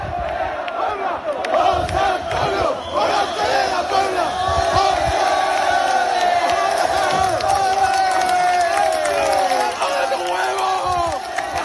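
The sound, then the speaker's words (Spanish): A large crowd of young people cheers continuously at the hotel where Morante was staying, acclaiming him after his second puerta grande at Las Ventas as he greets them from the balcony; a dense, loud wall of overlapping voices with rising whoops and chanting cries that never let up. “Una multitud de jóvenes aclamaban ayer en el hotel en el que se hospedaba Morante, le aclamaban después de su segunda puerta grande en las ventas y él salió al balcón a saludar a todos estos jóvenes.”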